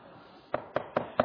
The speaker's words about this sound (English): So he knocks. She opens the door.